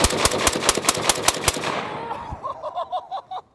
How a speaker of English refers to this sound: I have another 20 rounds of 277 Fury, and I'm gonna shoot all 20 rounds completely flat-footed and see if it knocks me over. All right, completely flat-footed, standing straight up. Here we go.